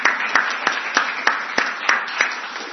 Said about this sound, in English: So can I just say, let's give them a big round of applause to say thank you for the part they've played, for their help.